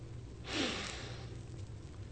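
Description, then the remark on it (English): A single airy intake of breath through the nose, a soft noisy sniff lasting under a second, followed by quiet room tone with no talking. “Now put your nose right here. Now, sniff.”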